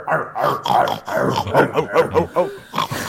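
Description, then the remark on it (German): A voice imitates a deep, manly grunt in a rapid string of about ten rough, guttural bursts, loud and rhythmic, with an animal-like, snorting quality and no spoken words. “Wir sind nämlich frauenlos und deswegen möchte ich jetzt mal ganz kurz ein ziemlich männliches Grunzen hören an der Stelle.”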